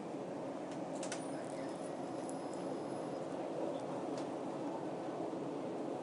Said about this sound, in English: I'll leave this on and let you hear some booscape of people getting on and off and the door alarm and things. Because it's very different from the trains I normally go on, the sound.